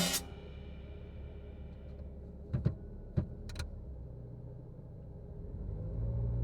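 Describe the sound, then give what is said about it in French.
A car engine rumbles steadily after a sharp burst at the start, with a few brief clicks in the middle, then the engine swells as the car pulls away from outside an apartment building, driving the speaker to high school. “La voiture arrive exactement au moment où je sors de l'immeuble, on dirait un film tellement ça tombe bien.”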